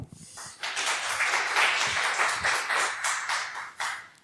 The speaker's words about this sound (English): So please welcome with a very warm applause